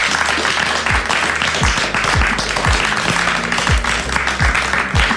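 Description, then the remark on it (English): An audience at Open Forum claps for Dan Owens-Cooper in a dense, continuous wash of applause lasting about five seconds, with a few low thuds sounding underneath. “A big round of applause for Dan, folks.”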